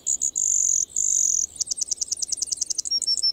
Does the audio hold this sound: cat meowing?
no